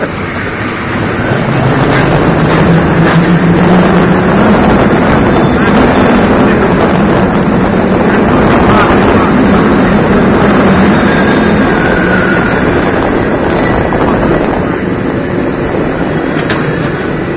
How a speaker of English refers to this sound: We're only going 8 miles an hour. That's the speed of the cable. Oh my gosh, there's another cable car coming right at us. It feels like they get very close when they do that.